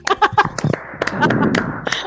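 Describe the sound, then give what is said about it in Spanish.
A short burst of applause: quick, irregular, sharp claps that thicken into a brief patter, with voices and a bit of laughter mixed in over about two seconds. “te mereces el aplauso de Ricky Martin.”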